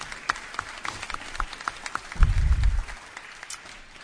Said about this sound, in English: Thank you so much. What a great group SAA is. I think everyone should have just a round of applause for yourself.